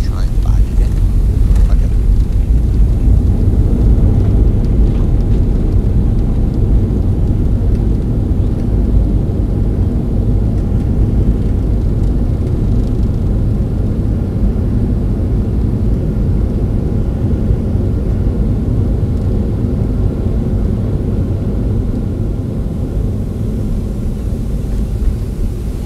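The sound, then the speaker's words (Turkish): A loud, steady low roar of a Turkish Airlines airliner rolling fast down the runway after touchdown and then braking, heard from inside the cabin, with rumbling and rattling that holds strong throughout and eases only slightly near the end. “Bir süre gördüğünüz gibi pırr pırr çok hızlı bir geçiş yaptı ve sonrasında uçak frenini yaptı.”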